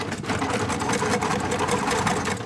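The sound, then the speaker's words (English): Many mechanical 9-key Braille writers clattering at once as students type their answers at a Braille reading competition in a classroom at the Tennessee School for the Blind, a dense, continuous stream of overlapping key clacks and thumps with no pauses and no voices. “In this session, they interpret charts and graphs, typing their answers into mechanical 9-key Braille writers.”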